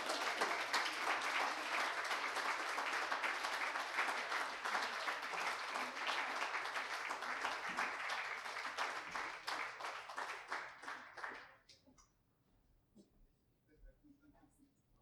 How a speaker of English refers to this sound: One more round of applause, please.